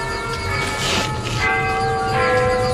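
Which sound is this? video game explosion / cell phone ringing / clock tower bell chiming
clock tower bell chiming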